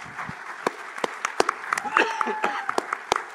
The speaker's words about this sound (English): So big applause for them.